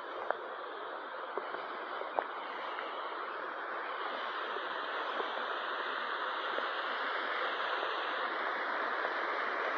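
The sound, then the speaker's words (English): A small waterfall flows steadily, a continuous rushing, splashing wash of water with a few faint droplet ticks and no voices. “A little waterfall here.”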